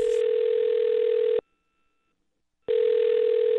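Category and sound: signal or alarm, telephone ringing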